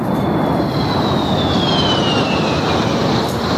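A loud, steady roar of two airplanes passing overhead in Madrid, rehearsing for the 12 October Día de la Hispanidad aerial parade, with a high engine whine that slowly drops in pitch as they fly by. No voices are heard.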